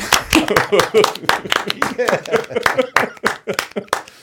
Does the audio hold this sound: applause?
yes